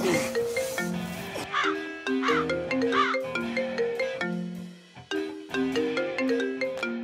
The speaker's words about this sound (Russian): Телефон звонит. Подними трубку хотя бы.